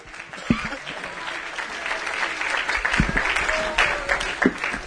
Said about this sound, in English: Would you now just clap your hands unto the Lord and give him praise and glory?